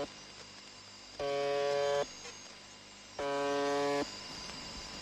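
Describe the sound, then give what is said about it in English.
A harsh, droning buzz tone from a shortwave number station sounds twice in regular bursts about a second long, rich in evenly stacked harmonics, over a constant hissy, humming radio-static background. “It's called the Buzzer, and you don't really have to put much guesswork into what it sounds like.”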